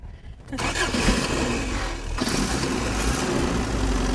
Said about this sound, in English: going to start the car